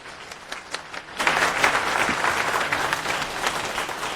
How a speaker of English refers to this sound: so please give him a round of applause to get him started.